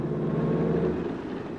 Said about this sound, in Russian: Он ощутил, как слегка приподнялся нос самолета, услышал громкий рев еще не заглохшего мотора, почувствовал, как ударившись о землю колесами, самолет мягко подскочил в воздух, и настало томительное ожидание.